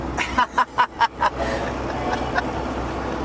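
Steady low road rumble from inside a moving car, with a quick run of five short, rhythmic chuckle-like bursts near the start before the engine and tire drone carries on alone.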